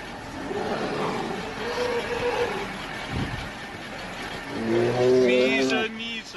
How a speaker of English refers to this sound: I'm not talking about the truck, the sound in back of the truck. It was a bear. Mishka, Russian slang for bear, in case you were interested. Polar bears are roaming around northern Russia.